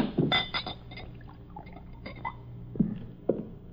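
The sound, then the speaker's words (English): A drink is poured into a glass inside a wagon used as a home, with a clink of glass at the start and a couple of sharper knocks near the end. No one speaks. “Pour this down.”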